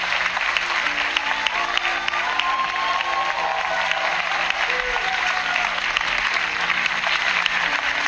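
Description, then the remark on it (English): Sustained applause from a large audience fills a church on a Sunday morning, dense and even clapping that carries on for the full length without pause, with faint voices murmuring beneath it. “he's clapping for the church, I think, to help the front pigeon others. He's clapping and saying thank you.”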